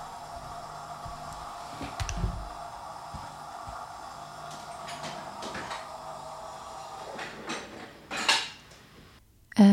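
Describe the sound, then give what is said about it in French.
A dishwasher starts up again, whirring into motion with a steady mechanical hum, punctuated by a few clunks and rattles of dishes inside, ending in a louder knock and a brief rushing surge. “Oh non, mon lave-vaisselle se remet en route, putain, mais trop chelou.”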